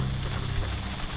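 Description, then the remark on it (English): Steady, soft rain falls outside in a continuous hiss, heard faintly through a quiet room with a low background hum and no voices. “What can you hear? The lamp? My pen? The rain?”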